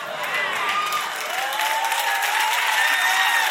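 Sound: audience clapping and cheering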